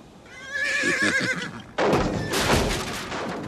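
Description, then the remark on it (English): A horse named Filigree whinnies loudly in a barn, a shaky rising-and-falling call, followed by a burst of snorting and rustling noise with no talking. “Sylvia runs to a barn and the sound of the horse.”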